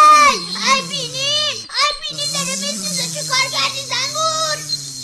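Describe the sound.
A voice imitates a goat screaming after a bee stings it on the nose, with loud, strained, wavering bleats whose pitch quavers up and down, running for about five seconds with one short break.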